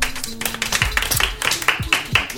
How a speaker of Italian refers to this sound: Applausi.